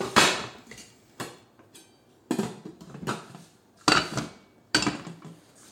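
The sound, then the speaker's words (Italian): A metal pot of soup clanks and knocks on a gas stovetop fed by an LPG cylinder, about six sharp, uneven bangs with short ringing tails, fairly loud, with no voices. “La pentola è sul fuoco, una bella zuppa”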